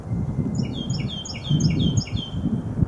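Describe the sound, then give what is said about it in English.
Birds chirp steadily in quick, high, repeated notes, several overlapping calls running throughout over a low, rumbling background noise. “Spend some time listening to the birds.”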